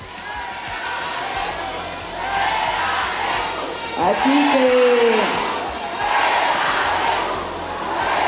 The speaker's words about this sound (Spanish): si están esos gritos, mejor nos vamos. Vamos a respetar. A ver, levante la mano quien va a respetar. Bueno. Si no hay respeto, nos vamos todos.